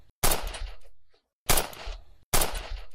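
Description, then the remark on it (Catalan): Three loud gunshots, fired at an access door, ring out at uneven intervals, each a sharp, full-bodied blast that trails off in a brief rumbling decay, with near silence between them and no voices. “Dispareu a la porta d'accés!”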